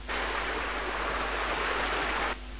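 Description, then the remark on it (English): Steady rushing of river rapids, a dense, even hiss of flowing water that holds constant for about two seconds, then cuts off abruptly. No voices accompany it. “There are rapids on the river, and it creates very tender, soft sound that activates the Vishuddha”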